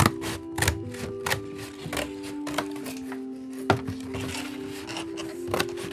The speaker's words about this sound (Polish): Wszystkie te prostokąty trzeba teraz wyciąć. Mhm. Proszę bardzo. Ciach, ciach, ciach. Tnę nożyczkami tekturę.